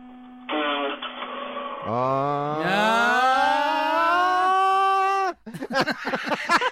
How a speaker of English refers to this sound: It's the solenoidal part of the starter that as the solenoid is engaging is making that noise. And then as soon as it does that, the starter begins to turn and cranks the engine over.